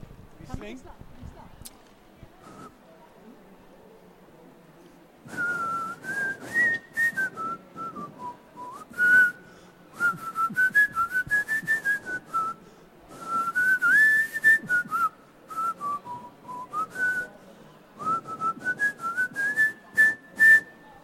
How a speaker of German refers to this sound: Wer … nicht kennt, er pfeift uns mal was vor und dann kennen wir ihn, glaube ich, fast alle.